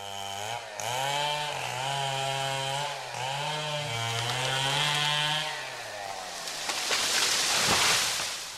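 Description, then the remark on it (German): A chainsaw engine drones loud, its pitch rising and dipping as it revs, then breaks into a rough, grinding roar as the blade bites into the trunk of a sycamore maple. The tree is being cut down in Germany's Rhineland and Ruhr area because it is diseased with sooty bark disease. “Vielerorts im Rheinland und Ruhrgebiet dröhnen derzeit die Kettensägen.”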